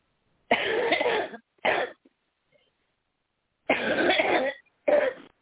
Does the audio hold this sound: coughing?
yes